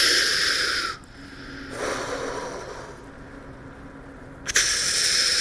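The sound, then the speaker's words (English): A voice imitates a diver's own scuba regulator breathing underwater: harsh, hissing inhales and exhales alternate in a slow cycle, loud, with brief quiet gaps between breaths and no talking. “Except you hear yourself breathing.”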